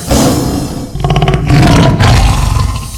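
A lion's roar, loud and rumbling, with deep growling tones that swell into a second, stronger surge and stay harsh and sustained for the full three seconds.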